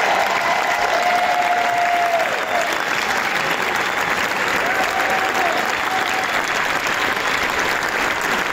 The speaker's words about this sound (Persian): با استقبال پرشور تماشاگران مواجه شد و اونها 12 دقیقه عوامل این فیلم رو در کاخ جشنواره کن تشویق کردن.